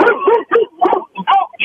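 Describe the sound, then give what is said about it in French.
A dog arriving barks and whimpers in a quick, uneven run of short yips and whines, with brief pauses between the bursts. “Excusez, il y a un chien qui s'en arrive.”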